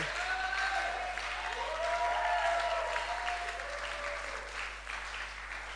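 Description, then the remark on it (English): An audience claps steadily throughout, a dense, continuous wash of applause at an even level, with a few faint voices rising over it. “You are not clapping.”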